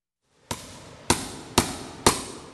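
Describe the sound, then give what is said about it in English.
Four sharp hammer blows strike a wooden floor at a steady, slightly quickening pace, each crack ringing out, as a floor installer lays the new stage floor during the renovation of Symphony Hall. No one speaks. “Even the hammers sound warm and clear in Symphony Hall.”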